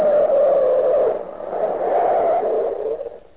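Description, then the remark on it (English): A loud, sustained screech of car tires skidding for a few seconds, wavering in pitch and easing slightly toward the end as the vehicle comes to a stop. “Stop the car.”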